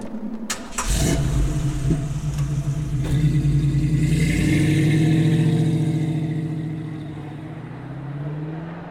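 A car engine cranks and catches, then revs with rising pitch before the car pulls away, its steady drone gradually easing off. No voices are heard.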